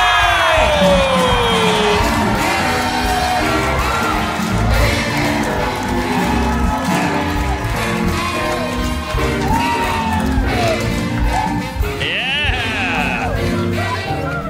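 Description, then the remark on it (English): A large crowd cheers and whoops loudly and continuously for TV and movie star Jaleel White, known as Steve Urkel from Family Matters, who is introduced to shoot T-shirts into the crowd, with shouts and yells rising above a dense, sustained roar of applause and voices. “Keep it going for Jaleel White!”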